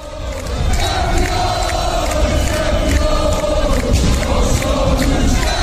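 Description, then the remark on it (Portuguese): A huge crowd of Sporting fans roars and chants celebrating the club's title win after 19 years, at the referee's final whistle, a dense, unbroken wall of shouting voices that swells within the first half-second and stays loud throughout. “O apito do árbitro ditou o fim do jejum e os adeptos leoninos voltaram a gritar o que já não gritavam há 19 anos.”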